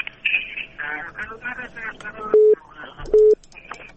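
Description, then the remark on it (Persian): Muffled, crackly telephone chatter from a listener in Kabul calling a Radio Azadi call-in program gives way to two loud, steady beeps as the line is cut off. Each beep lasts about a fifth of a second, with a short gap between them. “بله، تلفن از اینام قطع شد.”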